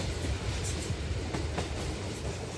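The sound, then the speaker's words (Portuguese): A moving passenger train leaving Mandalay rumbles steadily, a constant roar of wheels on rails broken by a few scattered clacks, with no voices present. “O comboio era a transformação plena, a passagem do vernizim à leveza.”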